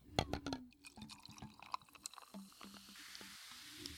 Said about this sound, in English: It sounds fizzy.